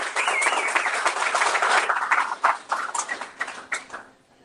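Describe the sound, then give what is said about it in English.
A crowd applauds with dense, steady clapping that holds for about four seconds, then thins into a few scattered claps and fades out. No one speaks. “Once again, give him a round of applause.”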